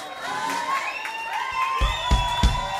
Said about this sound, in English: I called him and he was singing in a big auditorium. So he was like, okay, just a moment. And he put the people. And the people was like shouting,